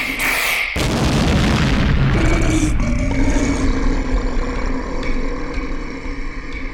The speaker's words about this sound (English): The Bovalli have gone. The explosion scared them off.